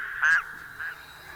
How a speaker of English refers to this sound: Here comes the first of this evening's frogs.